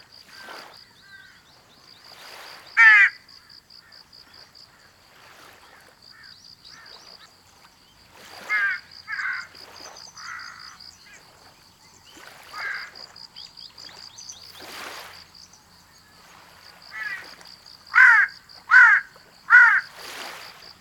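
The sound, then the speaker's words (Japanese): A Ryukyu jungle crow, a small southern form of jungle crow, caws in scattered single calls, then a quick run of four loud caws near the end, over a steady high insect buzz and occasional soft rustles. “逆に南に分布しているものは小型になる傾向があり、オサハシブトガラスはこの典型的な例です。”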